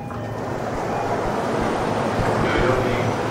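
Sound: train pulling into station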